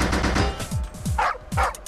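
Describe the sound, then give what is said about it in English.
Several sharp barks from a dog in a pipe-fitting video game, clipped and synthetic-sounding, mixed with thumping low impacts and rapid bursts resembling gunfire, fairly loud with no talking. “There's the doggy.”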